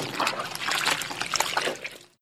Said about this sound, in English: I wash the dishes.